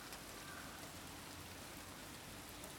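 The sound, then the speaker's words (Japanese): Steady rain patters on an umbrella, a dense, even spray of drops with soft irregular taps, continuing without pause and no voices. “屋根から滴る音。ぼつぼつと傘が雨をはじく。”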